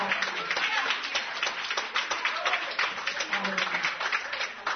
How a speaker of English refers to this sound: Clap them hands.